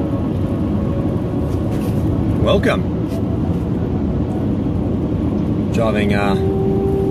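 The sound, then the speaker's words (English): Steady, broad road rumble fills a moving car's cabin, which has child seats in the back, loud and constant throughout, with a couple of brief tonal whistles and a short spoken greeting over the engine and tyre noise. “Driving Mummy's car today.”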